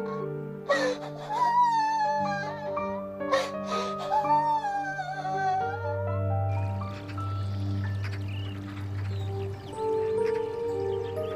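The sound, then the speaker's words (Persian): Whimpering, wavering cries rise and fall in a few sobbing bursts over sustained background music, then fade into a steady musical drone, as a character lies on her bed in her room crying. “صورتی توی اتاق رو تختش افتاده و گریه میکنه.”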